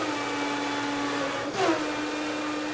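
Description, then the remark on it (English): A blender whirs steadily in the kitchen of a holistic juice shop in New Orleans, a constant motor drone with a brief rising surge of higher-pitched grinding midway through, no voices over it. “The kitchen uses a pair of refrigerators, a prep table, a sink, and the cornerstones of her business, a cold-pressed juicer and blender.”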